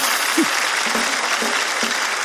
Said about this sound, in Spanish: De Huacho, un aplauso para...